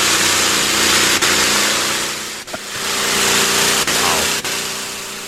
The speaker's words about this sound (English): Can I go to the tractor pull again?